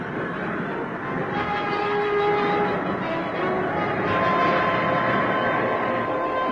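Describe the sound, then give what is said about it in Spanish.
A train on the southern railway line at Alcázar de San Juan, Spain, where electrification of the southern trains begins, rumbles steadily along the rails, loud, its dense clattering roar carrying faint whining tones throughout, with no voices. “En Alcázar de San Juan comienza la electrificación de los trenes del sur.”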